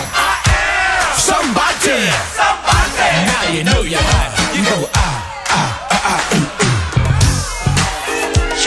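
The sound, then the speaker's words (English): A large concert crowd screams and cheers loudly in a continuous roar in response to the performer's call to scream, with many overlapping voices rising and falling, punctuated by sharp whoops and yells throughout. “If you're ready to party and you're ready to jam, scream it out and say I am.”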